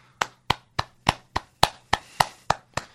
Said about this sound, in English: Yeah, that's both silent and heartwarming. So I'm just going to do a few audible claps on behalf of us.